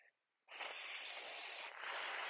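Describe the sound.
A voice imitates a snake's hiss: one sustained, breathy sibilant sound lasting nearly two seconds, fairly loud, growing slightly stronger toward the end after a brief silent gap.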